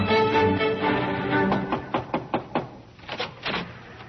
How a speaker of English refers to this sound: A few weeks later, while you were down playing on the shore, there was a knock at the lighthouse door.